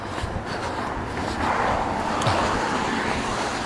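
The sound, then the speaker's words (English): A steady, broad wash of road traffic hums on the Dunedin Causeway, with a vehicle swelling a little louder partway through; no one speaks. “A bit more traffic on the causeway as well compared to last week.”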